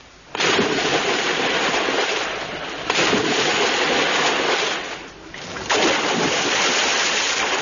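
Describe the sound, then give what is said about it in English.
Three loud, sudden splashes into water, evenly spaced a few seconds apart, the third made by a person plunging in, each a burst of rushing, churning noise that lingers briefly before the next plunge. No voices. “The third splash is, of course, Max Galbraith.”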